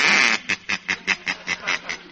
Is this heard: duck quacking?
yes